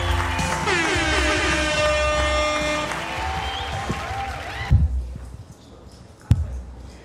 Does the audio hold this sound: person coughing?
no